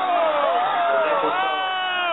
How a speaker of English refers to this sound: I know the clip is extremely low and hard to hear over all the crowd noise, which I don't think should have been cheers or woes.